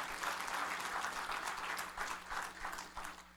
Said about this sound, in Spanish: ¿Cuántos dicen gloria a Dios? Dele otro fuerte aplauso, hermano. Está bien.